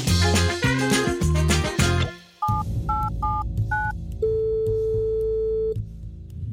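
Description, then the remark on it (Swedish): A burst of music cuts off, then four quick two-tone telephone dialing beeps sound, followed by a single long steady ringing tone over a low hum, as a phone call is placed to get help with a cannibal quiz. “du tog hjälp och ringde Dan Hörning från Seriemördarpodden i ett kannibalquiz då som jag hade snickrat ihop.”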